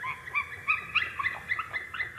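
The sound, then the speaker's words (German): White-tailed eagle calls recorded in a forest in Saxony, Germany: a rapid series of high, thin yelping notes, repeated in short bursts at a steady moderate level over a faint low background hum, with no talking. “Jetzt hören wir im Hintergrund Seeadler.”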